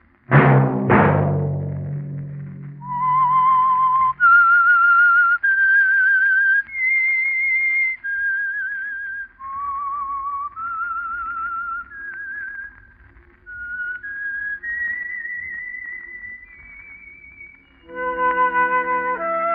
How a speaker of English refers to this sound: That whistle be your invitation to listen to the Household Finance Corporation program, The Whistler, each week over these stations.